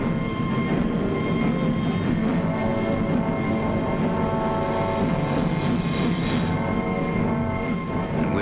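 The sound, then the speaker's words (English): A steady, loud roar of aircraft engines as Pathfinder planes take off fills the whole clip, a dense droning rumble with a humming engine tone that holds without pause. No one speaks. “Then we heard the roar of engines as the Pathfinder ships began hopping off.”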